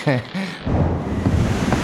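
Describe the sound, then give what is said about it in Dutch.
A short voice gives way to a loud, steady roar of a storm at sea, with stormy wind and deep rumbling thunder, filling the rest of the moment. “Koning Alonso en ikzelf vroegen ons af of je bijna klaar bent met die storm.”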